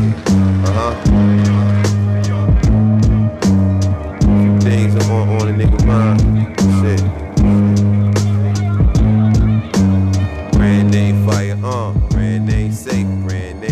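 A music track plays loudly throughout, built on a heavy, repeating low bass line with regular breaks and a steady beat of sharp percussive hits layered over brighter melodic sounds.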